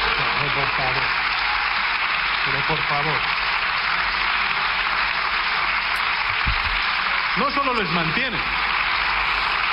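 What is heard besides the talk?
applause in parliament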